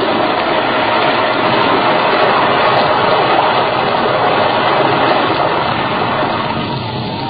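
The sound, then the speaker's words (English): A loud, continuous rumbling roar of an avalanche, a mountain of snow overhanging a road dropping, a dense wash of churning noise that holds steady for several seconds and eases slightly at the end, with no voices. “A mountain of snow overhanging the road, dropping with an echoing roar.”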